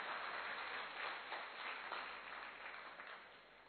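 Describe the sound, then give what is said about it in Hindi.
An audience claps together in a dense, steady patter of many hands, welcoming Sudesh Didi from Delhi. The applause holds even throughout and eases slightly toward the end, with no voices over it. “आदरणीय सुदेश दीदी जी का हम दोनों हाथ की ताली बजाकर स्वागत करते हैं।”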